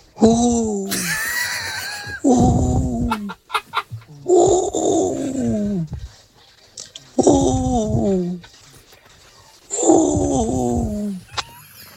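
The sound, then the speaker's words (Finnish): A person mimics an owl call: four loud, wavering, strained hoots repeated at a steady pace, with short pauses between them and no talking. “Vähän se ujo darranen pöllö.”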